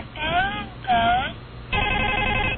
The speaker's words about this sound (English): Okay, it's a book with four pictures. So you press them and they, you know, give a sound. It's called Busy House. So here's the first example of a phone, right? So you push the phone and it says...